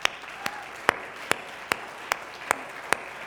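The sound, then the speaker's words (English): An audience applauds people who have served or are serving in the military, with a steady, evenly spaced rhythm of sharp claps, about eight in three seconds, rising over a continuous wash of crowd clapping noise. No one speaks. “An applause is not, of course, that doesn't do anything other than just give us a time to say we thank you for what you did and to give you some recognition.”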